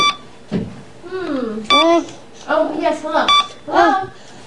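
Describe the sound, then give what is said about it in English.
A toy phone rings with a few short electronic bursts and warbling, sing-song tones, fairly loud, repeating in uneven pulses over a few seconds. “Hope it works out. Ring.”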